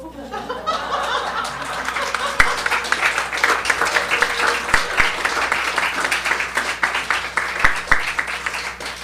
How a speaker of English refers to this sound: I love applause.